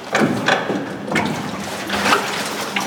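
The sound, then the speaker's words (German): Water sloshes and splashes steadily as a water taxi comes in to dock at a hotel on the flooded Danube, with a few brief bumps and surges rising out of the churning wash; no one speaks. “Nach kurzer Fahrt im Wassertaxi kann”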